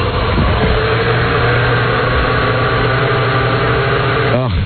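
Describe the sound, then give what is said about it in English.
A blender with its lid on, mixing clam sauce, anchovies, spam, chewing tobacco, mealworms and Pepto-Bismol into a drink, runs with a loud, steady motor whir and a humming tonal whine that holds for several seconds, then bends in pitch briefly just before the end as the motor changes speed. “Turn your blender on.”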